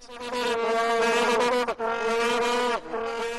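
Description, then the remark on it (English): Vuvuzela horns at the World Cup drone in a loud, steady, buzzing blare on one low-mid pitch, rich in harsh overtones, with two brief dips before the sound swells back. No talking. “But you mentioned that horn, and it's called the vuvuzela, and here it is.”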